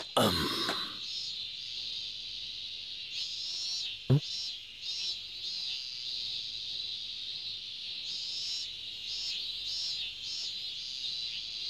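Cicadas drone continuously in a dense, high buzzing chorus that pulses and swells in waves, with a brief sharp knock partway through.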